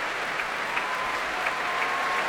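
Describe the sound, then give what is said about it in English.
Steady, dense applause from a large audience at a BBC Proms concert conducted by Ashkenazi, for the orchestra's leader Michael Dowd; many hands clapping continuously into a broad rushing wash with no pauses, loud and sustained throughout. “And applause for the leader, Michael Dowd.”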